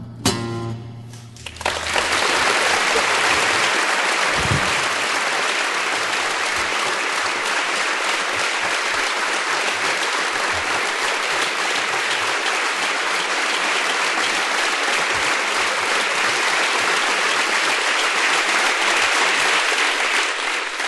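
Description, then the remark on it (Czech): A large audience applauds steadily for about twenty seconds, a dense, even wash of clapping that holds at a constant loudness after a brief opening moment. “Tleskáte, tak já, když nepřijdu, tak vypadám jako frajer, že?”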